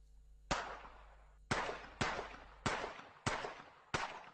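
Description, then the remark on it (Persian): Six sharp gunshots ring out in quick succession at slightly uneven intervals, each loud crack trailing off into a short echoing tail, with no voices: a gunman firing while attacking a daycare center around lunchtime in Uthai Sawan, Thailand, about 500 km northeast of Bangkok. “شلیک های پی در پی فرد مسلحی که حوالی وقت نهار با حمله به مهد کودکی در شهر اوتای ساوان تایلند واقع در 500 کیلومتری شمال شرق بانکوک، دست کم جان 20 کودک خردسال و 18 بزرگسال را گرفت.”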